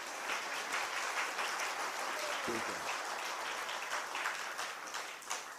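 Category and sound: crowd, audience clapping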